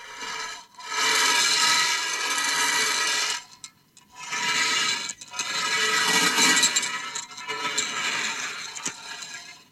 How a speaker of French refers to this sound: Quelques extraits pour illustrer ces essais électroacoustiques de Fielding dans Le cri du sorcier. Dans le premier, on vient d'entendre des billes qui roulent sur une plaque métallique.